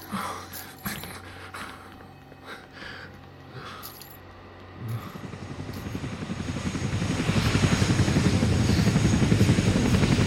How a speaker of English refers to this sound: He's taking everyone on the Chinook back to the mainland. No. No. You must stop them. I can't. Don't let them get on that helicopter.